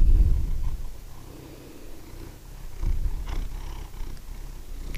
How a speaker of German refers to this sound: Ja, ja, schnurren, ne? Das kannst du. Hier, warte, hier musst du drin schnurren.